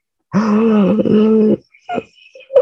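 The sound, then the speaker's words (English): A voice imitates Lord Ram's continuous yawning, a long, drawn-out yawn, a loud sustained groaning vocalization lasting over a second, followed by a couple of short, softer breathy sounds. “And the yawning was not stopping.”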